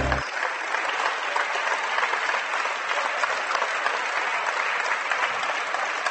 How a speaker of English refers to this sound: Well, a big round of applause here